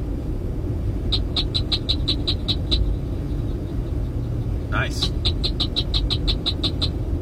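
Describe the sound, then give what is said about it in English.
A cricket frog calls in two bursts of rapid, evenly spaced sharp clicks, each run about eight notes long, over a steady low rumble like passing traffic. A voice briefly speaks. “Yeah, I see why you'd call that a cricket frog.”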